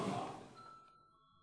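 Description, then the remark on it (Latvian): A single electronic bell tone, the voting signal in a parliament, rings out with a bright initial strike, then fades into a lingering steady hum over about a second and a half, fairly quiet and with no talking. “Lūdzu zvanu.”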